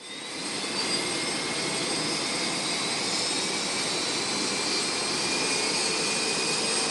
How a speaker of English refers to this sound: The day began when they departed Green Bay in a U.S. Army Black Hawk helicopter.